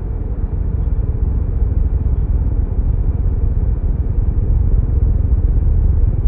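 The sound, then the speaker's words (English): Aircraft engines start up and roar in a steady, low rumble as a plane begins moving and taxis, a dense continuous drone that holds at an even loudness throughout with no voices. “My pulse quickened as the engines kicked in, and we started moving.”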